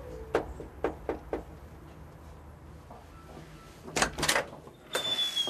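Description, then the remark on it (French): A few sharp knocks or clicks, then a rattling latch and the front door of a country house in Walloon Brabant, Belgium, swinging open with a brief squeaky creak, fairly quiet, with no one speaking. “nous ouvre la porte de sa belle maison nichée dans un coin de campagne du Brabant wallon.”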